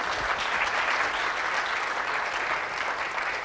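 An audience at a lecture at the Institut d'astrophysique de Paris applauds steadily, a dense wash of many hands clapping at an even, sustained loudness with no voices standing out.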